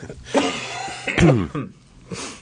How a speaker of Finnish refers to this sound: Suokaa anteeksi pientä yskähtelyä. Se on nämä nikotiinivalmisteet, kyllä, jotka aiheuttavat tätä yskää.